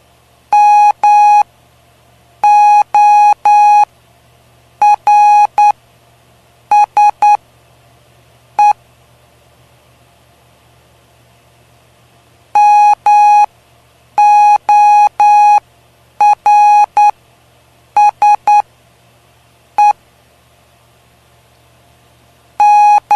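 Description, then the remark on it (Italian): Morse code beeps spelling the word MORSE: a single high-pitched tone keyed in short and long bursts, grouped into letters separated by pauses, with the same sequence repeated twice over a faint low hum. “M, O, R, S, E. Morse.”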